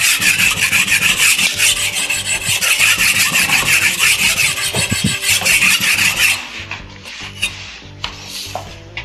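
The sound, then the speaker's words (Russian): A knife blade being sharpened by hand under a master's guidance rasps steadily against a whetstone in fast, even back-and-forth strokes for about six seconds, then stops, leaving a few quieter scrapes and taps. No one speaks. “Может быть, вам захочется попробовать самому заточить нож под руководством мастера.”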